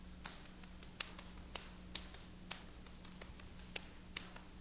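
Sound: rhythmic hand clapping pattern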